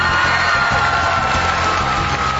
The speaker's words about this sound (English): Every time we do this show, there's applause. We must be doing something right.